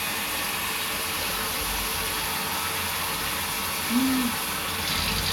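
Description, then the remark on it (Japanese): Tap water runs in a steady, hissing rush to rinse off soap lather, with a short squeaky tone near the end as the faucet is turned to add a little more water and change the flow. No one speaks. “もうちょっと水を。”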